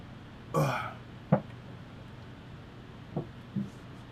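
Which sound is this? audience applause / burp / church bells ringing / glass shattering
burp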